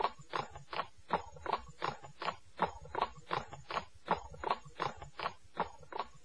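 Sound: donkey hooves clip-clopping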